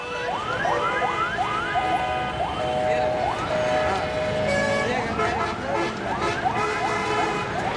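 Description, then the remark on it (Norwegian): Dense, chaotic street traffic in Dhaka, Bangladesh, with a constant roar of engines and a clamor of overlapping horns and siren-like whoops sounding repeatedly, loud throughout, with voices mixed into the din. “Søppel, kloak, stinkende elver, ekstremt trafikkaos og vanvittig mange lyder. Bare hør på det opptaket her.”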